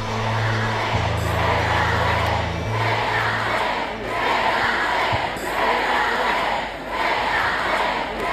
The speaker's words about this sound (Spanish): en la celebración de la cuarta Champions del Barça, le gritaban los aficionados en la fiesta de esa cuarta Champions del Barça esto a Alexia Putellas.